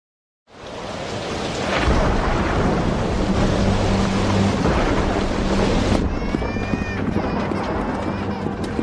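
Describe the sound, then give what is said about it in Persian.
A heavy thunderstorm roars in after a brief silence, with deep rolling thunder and steady pounding rain filling the scene loudly and continuously, gusts of wind whistling through toward the end. “این طوفان ادامه داره.”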